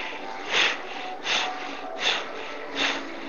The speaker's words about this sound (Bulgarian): Просто дишане, бастрика, прана яма.